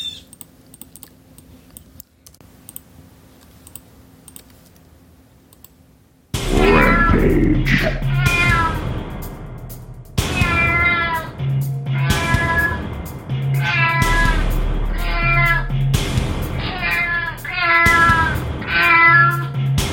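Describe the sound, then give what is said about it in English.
A cat meows repeatedly, loud, in a rapid run of insistent calls from about six seconds on, after a quiet stretch with faint tapping. “He is kind of black and white, but I couldn't find a black and white cat, and his name will be Snoopy.”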